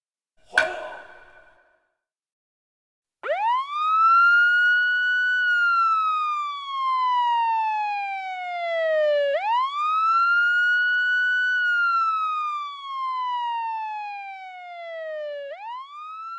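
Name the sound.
tsunami warning siren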